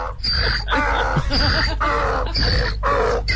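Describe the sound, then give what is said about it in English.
A donkey bray sound effect played from a sound effect button bar, with no one talking: a loud, harsh, raspy hee-haw repeated about four times in a steady seesaw rhythm, each cry rich in buzzing overtones. “I didn't think I had one, but I found a donkey on my sound effect button bar here.”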